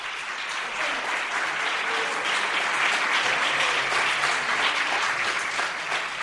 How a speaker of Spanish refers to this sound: Les decía yo antes que se notase su presencia. Están aquí todos los chavales. Que se note de nuevo, chicos. Un aplauso.